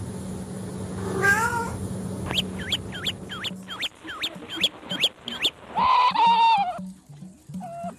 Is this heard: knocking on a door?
no